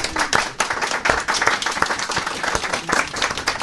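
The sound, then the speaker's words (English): A group claps together in a steady, even beat, the sharp hand claps landing in unison at a quick regular pace, loud with no talking. “First off, give yourselves a round of applause so it sounds like everyone else is here to applaud you.”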